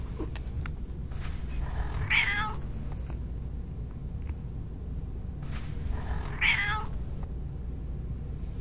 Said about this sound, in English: Yes, of course you have to wear your harness. We're outside in a park. It does not make you look domesticated. You're a cat. No one would mistake you for domesticated.